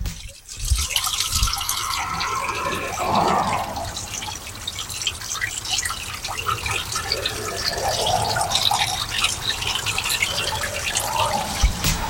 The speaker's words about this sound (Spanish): Mira, de hecho vamos, ¿escuchó? Para dimensionar aproximadamente cuánta agua cae, no lo sé, en 5 segundos, en 10 segundos.